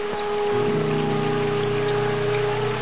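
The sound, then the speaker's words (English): Heavy rain pours down in a steady, dense hiss that fills the whole clip, with a low, sustained droning tone running underneath and no voices. “They try to light a fire, but it's raining too hard.”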